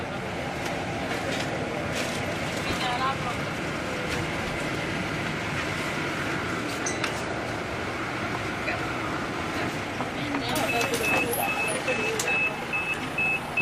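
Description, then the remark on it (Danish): A bus driving down Åkantvej, heard from inside: a steady engine rumble and road roar that runs unbroken throughout, with faint indistinct voices murmuring in the background. “Nu kører vi ned ad Åkantvej. Det er den sidste vej inden ruten.”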